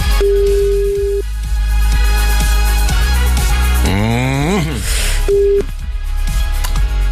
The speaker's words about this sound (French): Attention, le téléphone sonne pour la deuxième fois de la matinée, c'est peut-être le vôtre.